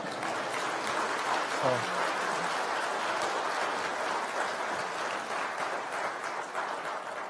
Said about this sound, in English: You can clap. That's okay. Go for it.